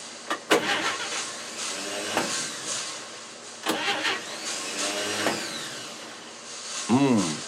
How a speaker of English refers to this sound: I'm having a few problems with the car. I can't seem to start it. Let's try.